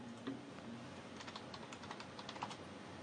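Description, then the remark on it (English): Rapid, uneven clicks of fingers typing on a computer keyboard, fairly loud, with bursts of keystrokes over a faint background hum and no voices. “Well, it's time to make some more typing noises on the other computer.”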